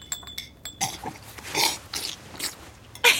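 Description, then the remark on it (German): Loud slurping of ramen noodle soup in several wet, noisy bursts over a few seconds, ending in a sharp final slurp, with no talking. “Bei uns wird es als unhöflich angesehen, aber in Japan ist das Schlürfen von Ramen sogar ausdrücklich erwünscht.”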